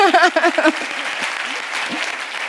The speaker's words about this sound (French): On peut l'applaudir pour ça.